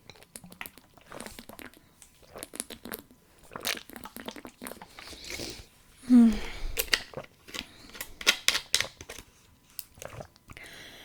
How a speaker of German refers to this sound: Damit ihr mich auch fein trinken hört, erstmal geprüft, ob hier das Aufnahmeding noch weiterläuft.